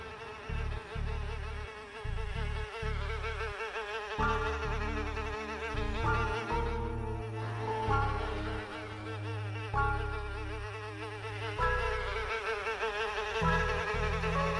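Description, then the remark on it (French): A housefly buzzes loudly for the whole stretch, its droning hum wavering up and down in pitch as it circles, with no voices present. “Putain de mouche, dégage!”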